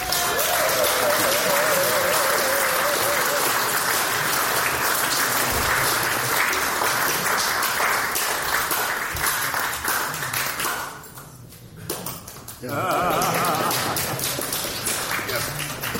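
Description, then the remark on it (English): A crowd applauds cartoonist Michael Heath, saluted as Oldie King of the Tunes, loudly and steadily, dense clapping with some cheering voices mixed in; the applause briefly dips to a lull near the end before swelling back up. “Sustain the applause.”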